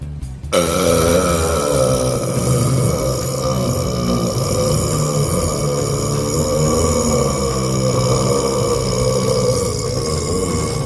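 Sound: burping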